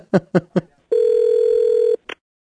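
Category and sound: signal or alarm, telephone dialing and ringing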